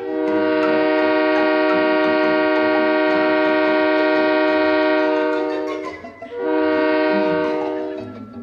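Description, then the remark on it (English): A loud train whistle, pulled by the engineer in the cab of a 1940s American train, sounds in a long, steady blast of about six seconds, briefly drops away, then gives a second shorter blast. No one speaks. “How about a pull of that whistle, Mr.”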